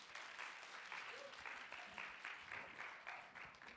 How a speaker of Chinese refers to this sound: 我们拍手来欢迎